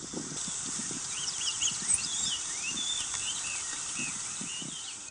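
A busy chorus of birds in an area of relatively normal radiation near Fukushima, with many short chirps and whistling calls overlapping throughout, set against a steady hiss and some low soft thumps, with no voices.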